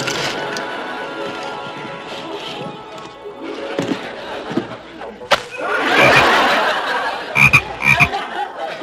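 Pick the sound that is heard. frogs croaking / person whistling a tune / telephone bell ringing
frogs croaking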